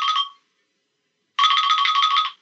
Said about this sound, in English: Ringing the bell.